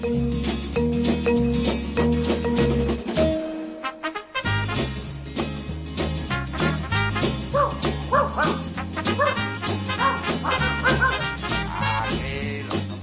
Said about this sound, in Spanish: A mis pies. Perro ladrador, poco mordedor, ¿eh?